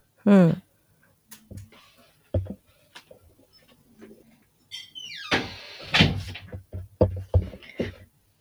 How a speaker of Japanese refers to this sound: ちょっとドアが開いてたので閉めてきました。